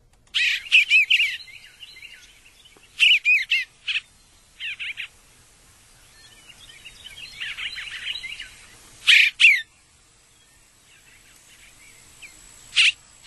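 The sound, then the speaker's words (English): An Eastern Bluebird sings short, high warbling phrases in separate bursts with brief pauses between them, some loud and some softer, with no voices present. “And let's listen to the Eastern Bluebird again.”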